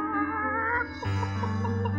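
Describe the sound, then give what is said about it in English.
Chickens cluck on an old houseboat on a river at night: a drawn-out, wavering call gives way to a run of short, evenly spaced clucks over a steady low hum, with no one talking. “Chickens. It was definitely chickens.”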